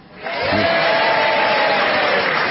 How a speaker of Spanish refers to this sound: Ahora van a tener que aplaudir otra vez, van a ver.